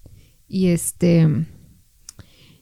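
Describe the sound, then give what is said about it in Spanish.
A chair creaks twice in quick succession as someone presses a foot on it, each a loud, groaning squeak with a strained tonal edge, followed by a faint click and quiet. “La silla, es que está subiendo su pie en mi silla, que rechina.”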